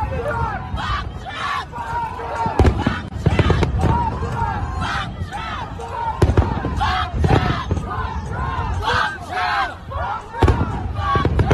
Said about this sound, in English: Take a listen to this. They're shouting, "Off with his head." They're standing in front of the guillotine.